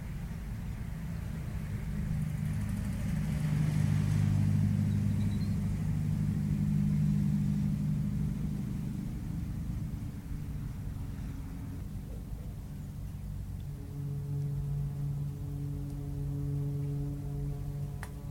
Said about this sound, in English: As you can hear, the foghorn's getting a little fainter. Well, it's obviously passed by this area.